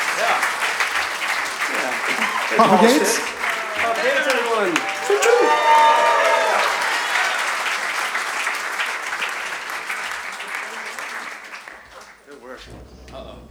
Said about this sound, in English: Get a round of applause for these fine players making us look decent, huh?